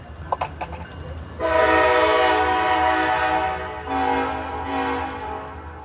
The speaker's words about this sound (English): Last night, a number of people were able to get on the train, but they're telling me that now the trains are moving very fast, so it's difficult to get on board.